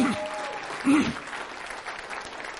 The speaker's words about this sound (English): Give them a hand clap and go ahead and have a seat.